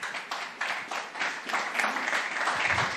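Sustained audience applause, a dense steady wash of many hands clapping at moderate loudness for the full three seconds, with no voices standing out.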